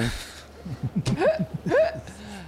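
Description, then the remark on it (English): A few sharp, squeaky hiccups pop out fairly loud, each with a quick upward yelp, over a low, bumpy pulsing sound underneath. “It's those hiccup sounds that activate the lightning damage.”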